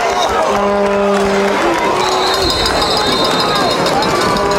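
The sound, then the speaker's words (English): A football stadium crowd at Richardson roars and cheers in a steady, loud wash of noise during a game against Western, with whistles and sustained tonal calls rising above the dense babble throughout. “As the bile rises in my throat, the crowd at Richardson rises to meet their gales.”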